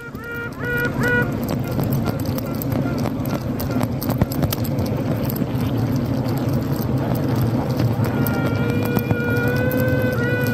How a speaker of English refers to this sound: Just before we go, Paul did send me the most amazing sound of a queen bee, and I think our listeners will love this.